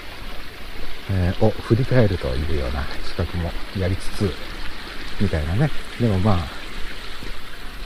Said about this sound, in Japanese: あ雨じゃなくて雪が本格的に降ってきたので傘を差します。